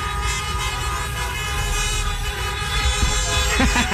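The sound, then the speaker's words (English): Busy street noise in Tampa with people honking car horns after their team won, a dense, continuous wash of traffic and tooting that swells louder near the end, with faint voices mixed in. “Just people honking their horns once they won.”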